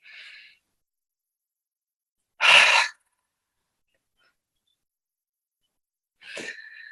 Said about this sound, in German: Und jetzt atmet einmal tief ein und noch tiefer aus. Stellt euch vor, ihr haucht einen Spiegel an beim Ausatmen. Ich mache es mal einmal vor. Tief einatmen über die Nase.